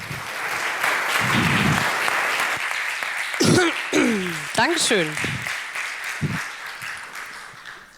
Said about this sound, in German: einen warmen Applaus.